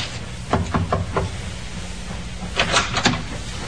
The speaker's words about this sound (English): Captain Booth thought it might be courteous if Miss Parsons were under the weather to pay her a courtesy call. Captain knocked.